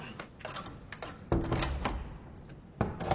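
A door shuts with a solid thump, followed by a second knock-like impact a moment later, against a quiet, faintly rustling background with no voices.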